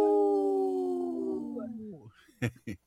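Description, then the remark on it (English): A person imitates a wolf howl on Native Roots Radio, a long, loud sustained tone that slowly slides downward and fades, followed by a couple of short, sharp vocal bursts. “I saw your neck went up like a wolf. I saw that. I had to play the whole part.”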